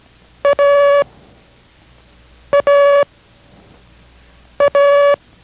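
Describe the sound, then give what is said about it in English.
Morse code letter A (as in Abel), sent three times in a Morse code lesson from station K6RAU in Merced: a short beep followed by a long beep, in a steady, buzzy mid-pitched tone with even pauses between repeats and no voices. “This is A as in Abel.”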